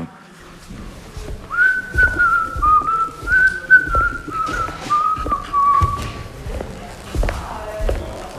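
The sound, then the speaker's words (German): A person whistles a short, clear melody of several sustained notes for a few seconds, accompanied by steady rhythmic thumps that continue after the whistling stops. “Also, welche Promis können pfeifen?”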